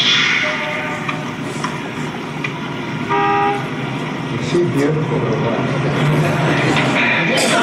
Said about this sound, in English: Looks like the Nashville bus is coming through. Yeah, and right on time, too.